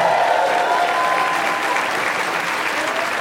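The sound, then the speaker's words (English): Steady, dense applause from an audience at a New York show for a sit-in piano player, a loud continuous patter of many hands clapping at once, holding an even level throughout with no voices rising above it. “Please give it up for … on the keys.”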